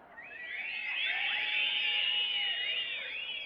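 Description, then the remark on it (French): Several shrill whistles sound together as a call signal to warriors in a camp, high tones wavering and sliding up and down, overlapping in a steady chorus that swells slightly in the middle and holds for a few seconds. “Lorsque vous entendez, lorsque les guerriers entendaient ce sifflement, c'était un appel pour l'Église.”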